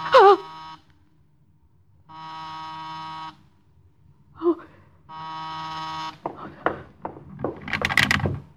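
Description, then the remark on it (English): A door buzzer sounds twice, two steady, harsh buzzes of about a second each with a short pause between, preceded by a sharp gasp and followed by clattering movement. “Any minute now there'll be a knock. Or a ring.”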